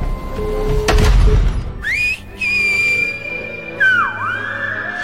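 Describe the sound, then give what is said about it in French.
A series of clear whistled tones in a whistled language from the film Les Siffleurs (The Whistlers), gliding up and holding steady, then dipping and rising, with pauses between phrases, fairly loud over a low background rumble. “On parle beaucoup de langues dans votre dernier film, les siffleurs, mais une langue particulièrement, celle qu'on ne maîtrise pas, que seuls les mafieux de votre film maîtrisent”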